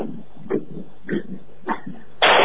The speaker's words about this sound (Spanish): Bueno, unos petardos.